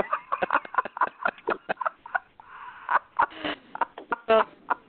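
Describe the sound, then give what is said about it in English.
A person imitates a horse riding off with quick, rhythmic tongue clicks for galloping hooves, fairly loud, with a couple of brief voiced, whinny-like squeals mixed in near the end. “I got a vision of you sitting on a horse and slapping the butt and then the horse taking, like, riding off.”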